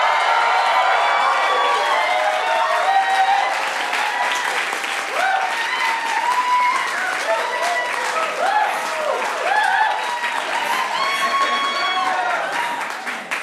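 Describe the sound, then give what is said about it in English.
A debate audience bursts into sustained applause and cheering to vote for the affirmative team, with dense clapping under whoops and rising shouts that stay loud throughout before easing slightly at the end. “If you think the affirmative for the superior team tonight, would you please make some noise?”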